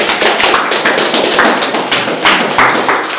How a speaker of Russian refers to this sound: Аллилуйя! Подарите Ему аплодисмент.